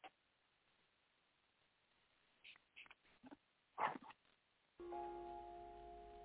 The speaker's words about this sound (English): A kind of whimpering.